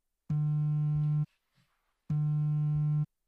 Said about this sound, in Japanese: あら、スマホが。